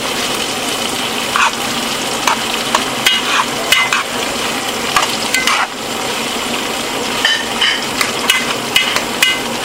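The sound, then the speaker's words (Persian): Steady, loud sizzling of sausage frying in a pan over high heat, broken by repeated sharp scraping and clinking as it is quickly stirred with a utensil, with no voices. “چون حرارت زیاده زود هم میزنم”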